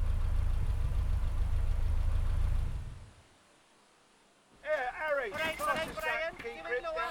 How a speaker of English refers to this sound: It was a TV crew pulling up noisily in a lorry.